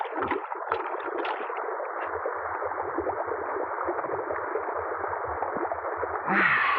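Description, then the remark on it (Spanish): Steady, continuous rush of water flowing in a mountain stream, with gurgling, bubbling textures throughout, moderately loud, with a brief brighter splash near the end. No voices are present. “Parecen peces en el agua de la quebrada.”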